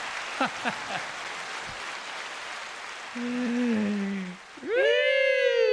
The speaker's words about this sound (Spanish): Métale doble aplauso, padrino.